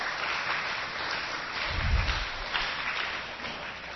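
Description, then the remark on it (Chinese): A crowd applauds male and female singers, a dense wash of clapping that holds at an even level for several seconds, with a brief low thump partway through and no voices over it. “好，来给男女歌手掌声鼓励一下。”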